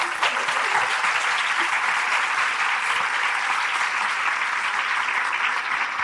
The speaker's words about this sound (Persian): هستن؟ کجایین؟ خوش بلند میشین؟ 13 سالتونه؟ ایشون یه تشویق بکنین؟